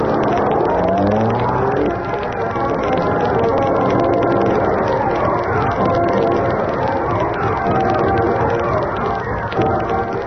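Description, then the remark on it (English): A car engine drones steadily and fairly loud, rising and falling in pitch as the vehicle drives along a dirt road out to an old warehouse on River Road, with a rough rumbling texture throughout and no pauses. “While you drive me out to the old warehouse on River Road, I'll put on the Hornet disguise.”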